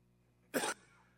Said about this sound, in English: Keith, I got a cough, so would you give me a second?